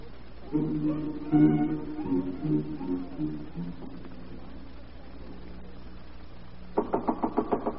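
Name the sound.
knocking on a door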